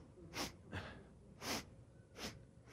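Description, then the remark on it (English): A voice imitates a grandfather sniffing through the nose as he wakes with Limburger cheese put on his mustache: four short, breathy sniffs at uneven intervals, fairly quiet, with no talking in between. “And as they put it on there, as soon as he woke up, he started sniffing.”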